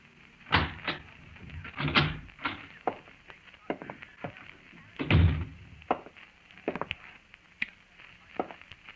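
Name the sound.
door opening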